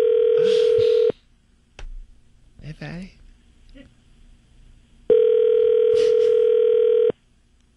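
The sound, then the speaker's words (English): Two loud, steady buzzing rings of an outgoing phone call's ringback tone, separated by a few seconds in which a person briefly speaks and some faint handling noise occurs. “which I have to say took like, I rang his phone 6 or 7 times.”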